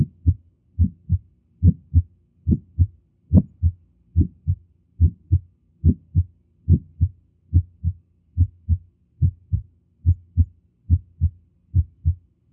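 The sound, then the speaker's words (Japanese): A steady heartbeat recording of a pulmonary ejection click: low, thudding first and second heart sounds in close pairs, each first sound carrying a sharp extra click just after it, repeating at a regular pace with no talking. “これは、肺動脈クリック音です。”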